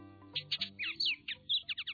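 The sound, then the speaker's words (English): Oriole song: a quick run of clear, fluty whistled notes, some rising and some falling, in a lively two-second phrase with short pauses between bursts, over a soft low tonal backdrop. “Baltimore Orioles in the east. And Bullock's Orioles in the west.”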